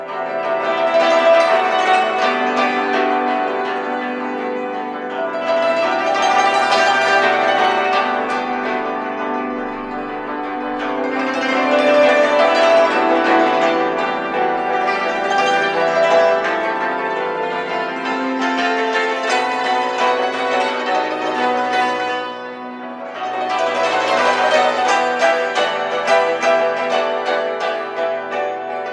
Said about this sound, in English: Now, what instrument is this we're listening to? This is a hammer dulcimer. Which is what exactly? It's a box zither.